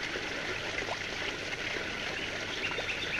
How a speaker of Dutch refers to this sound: In het heuvelland ontspringen overal kleine bronnen. Het water stroomt weg in smalle beekjes die leven brengen in het landschap dat enkele weken geleden nog zo dor en somber was.